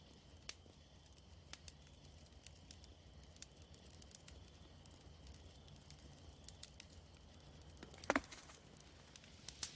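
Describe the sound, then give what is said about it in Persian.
A campfire crackles steadily at night, with scattered sharp pops and snaps over a low, soft rumble, and one brighter burst of crackling near the end. No one speaks. “شب، کوفون کنار آتش.”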